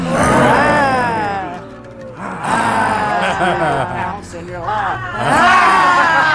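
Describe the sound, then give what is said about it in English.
Three people roar loudly together in imitation of lions as a laughter yoga exercise, voices rising in long, strained bursts that swell, dip briefly, then surge again near the end. “that is …, you and me roaring like lions”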